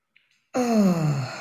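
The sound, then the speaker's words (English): A single long, deep exhale that comes out as a voiced sigh, its pitch sliding downward for about a second after a brief quiet moment. It is fairly loud, with no talking. “Shut my eyes and breathe in and breathe out.”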